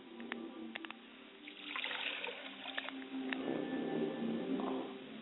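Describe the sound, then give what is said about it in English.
Liquid being poured out onto a surface as a libation to the east, a steady splashing trickle that builds and continues for several seconds, moderately quiet, with no voices. “I pour libations to the east, and I say, libation.”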